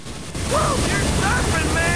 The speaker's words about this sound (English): White horses foam around them. The impressive wave carries them on towards the shore. Another wave in front of them hits the sandy beach in a rush of white spray.